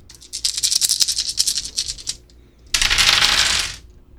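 Coloured dice, including green, purple and black ones, are rolled: a quick, uneven clatter of sharp clicks for about two seconds, then after a short pause a louder, steady rolling rattle, with no voices.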